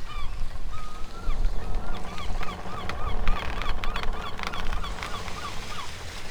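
Seagulls call repeatedly in overlapping squawks and cries, fairly loud, flying above and following a ship on a calm, sunny sea, over a steady low rumbling background with no talking.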